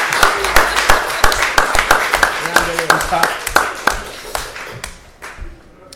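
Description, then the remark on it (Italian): Audience applause: a dense patter of irregular hand claps, loud at first with a few voices mixed in, then thinning out and fading over the last couple of seconds. “Un applausi.”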